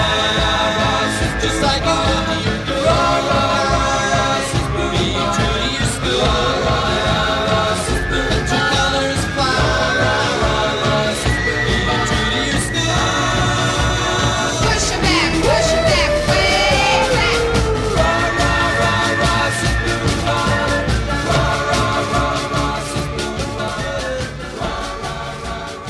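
An upbeat 1960s rock song plays loudly and steadily, with layered vocal harmonies, driving drums and guitars, and bursts of crowd-style cheering and yelling mixed into the music throughout.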